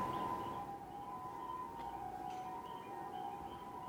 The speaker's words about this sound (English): It's weird to get annoyed by sirens, because speaking of the deathbed, yeah, who knows what's going on out there. Someone's having a bad day, and I'm like, stop it. Stop making a siren.